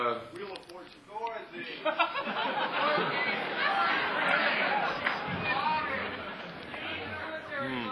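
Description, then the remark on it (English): A steady wash of crowd chatter, many overlapping voices blending into a continuous murmur with occasional louder exclamations and bits of laughter poking through. “Well, the crowd seems to be a little bit dulled out.”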